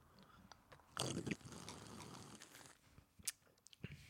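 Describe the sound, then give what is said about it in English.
A single long, loud, noisy slurp of a Moscow Mule cocktail made with tequila, cucumber and jalapeno, followed by a few faint mouth clicks and a swallow in the quiet afterward. “Let's slurp.”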